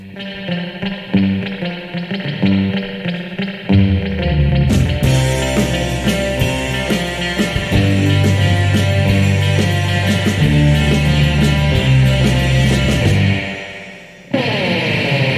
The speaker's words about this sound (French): cette musique née dans les années 50, essentiellement instrumentale, avec beaucoup de guitares électriques et aussi beaucoup de reverb.